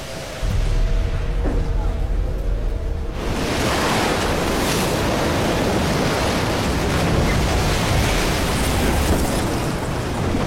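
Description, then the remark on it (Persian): Heavy surf and roaring wind of a storm at sea, heard while travelling on the water, fill the scene: a dense, continuous wash of crashing waves that surges in loudly after a brief quieter opening with some low rumble. “امیدوارم بی خودی تو این طوفان جونمونو به خطر ننداخته باشیم.”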